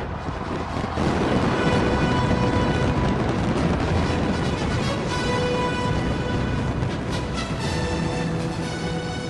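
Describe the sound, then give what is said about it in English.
A record-setting fireworks finale in Dubai, using over 400,000 fireworks, roars on without a break, a dense, loud barrage of overlapping booms and crackles that blur into one rumbling wall of sound, with no voices. “set another Guinness World Record for world's biggest fireworks display ever”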